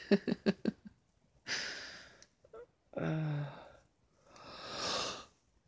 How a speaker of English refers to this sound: No, you're yawning. That was you, not me.